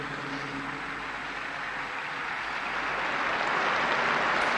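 Sustained audience applause at the Pope's address, for the people receiving Ukrainians fleeing their country; a dense crackle of many hands clapping that holds steady and swells slightly louder toward the end, with no voices standing out.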